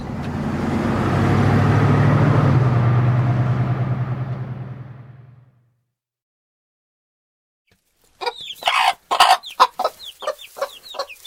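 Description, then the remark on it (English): A low, steady rumble fades away into a brief silence, then chickens on a farm in the country cluck at feeding time in a quick, busy series of short, throaty calls. “It's time to feed the chickens.”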